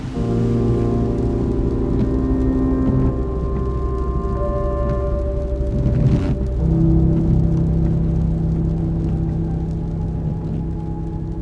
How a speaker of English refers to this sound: The rain's picked up again, and I'm on a long, straight road driving home.